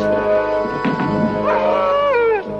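A dog vocalizes in a drawn-out, howling bark, its pitch wavering and sliding down toward the end. There is no talking, just the single sustained cry lasting a couple of seconds.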